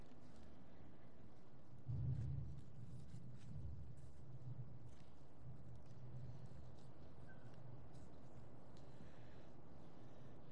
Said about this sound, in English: If I could get that thunder choreographed to just the right time in my message, then people would pay more attention.